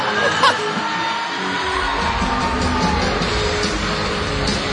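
A concert crowd cheers in a steady, dense roar at a show on October 25, 2013, with a brief louder whoop early on and a deeper rumble swelling underneath midway through.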